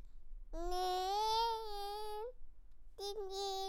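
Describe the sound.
A young child's voice imitates a car, holding a long, steady, buzzing vroom that rises slightly in pitch, then a shorter second burst after a brief pause.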